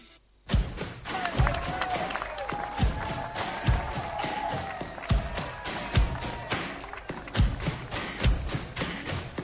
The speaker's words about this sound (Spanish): Siguen escuchando de fondo en el micrófono de ambiente de la cadena COPE, que ha colocado el ingeniero Javier García, que no le gusta nada que le llamemos ingeniero, la ovación a los ciclistas que continúan buscando la cima de Annecy en Nos